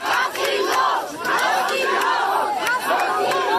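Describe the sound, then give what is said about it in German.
A large crowd of demonstrators chants "Lasst ihn raus" ("let him out") loudly in unison, many voices blending into repeated rhythmic phrases that rise and fall steadily with brief dips between shouts. “Also lasst ihn raus, diese skandieren.”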